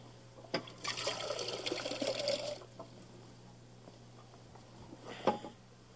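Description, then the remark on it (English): Water pours into a crystal drinking glass for about two seconds, a bright splashing trickle, bracketed by a couple of light clinks of glass. No one speaks. “Get some water for it.”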